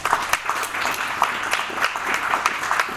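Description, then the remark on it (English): A crowd claps steadily for the teachers, a dense, continuous patter of many hands with a few sharper claps standing out, holding at an even, fairly loud level throughout. “So let's give a hand to the teachers.”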